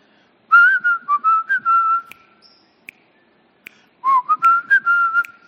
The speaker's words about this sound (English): Well, I'm not going to whistle the whole thing anyway.